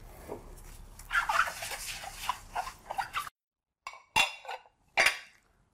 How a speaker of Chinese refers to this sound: 我在拌沙拉。我在拌沙拉。